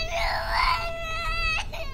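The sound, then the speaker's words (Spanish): A baby wails continuously in a high, strained cry, rising and wavering before breaking into shorter sobbing bursts near the end, with a low background rumble. “Esa guagua otra vez, ¿no ve? Llora y llora.”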